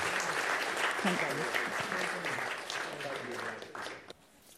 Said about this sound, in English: Should we just give these guys a round of applause for their help? Thank you very much.